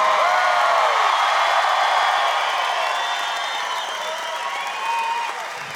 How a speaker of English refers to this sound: Thanks for clapping.